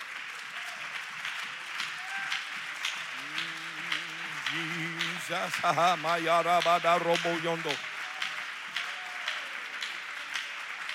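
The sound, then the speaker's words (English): An audience claps steadily in praise, a dense, continuous wash of many hands that runs the whole time, with a voice rising loudly over it in the middle, stretching out a word. “Come on, let's give him a hand clap of praise.”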